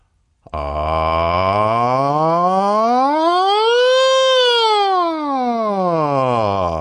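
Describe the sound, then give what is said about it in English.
A single voice does a slide or siren singing exercise, gliding in one unbroken tone from low pitch up to a high peak and smoothly back down, lasting about six seconds, steady and loud, with no other sounds. “Put a hand on your chest and do the slide or siren exercise with me. I'll do it first.”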